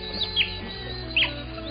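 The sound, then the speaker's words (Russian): An otter's high, clear whistle: two quick bright chirps, a pause, then another sharp whistled call, heard alone over a low, steady background hum. “Свистим мы. Услышишь на речке высокий чистый свист? Это кто-то из нас.”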